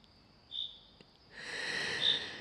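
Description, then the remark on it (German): Birds sing in a spring forest: a brief high chirp, then a steadier run of bright, trilling song that swells slightly toward the end, all fairly faint with no voices. “Ich bin heute wieder mit dir im Frühlingswald. Du hörst die Vögel.”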